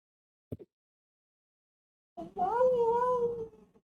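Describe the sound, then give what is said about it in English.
After a brief soft thump, a female cat just woken from a nap lets out one long, drawn-out, annoyed yowl that wavers in pitch, fairly loud, with no talking around it. “I just woke her up from a nap, so she's going to be extra doubly pissed at me. I don't have a cat with me”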